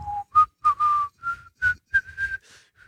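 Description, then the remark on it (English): A man whistles a short, bright melody of about ten notes, rising in pitch with a few held tones, clear with no talking; the whistled tune from a Corona beer advertisement. “And, you know, you have the guy whistling.”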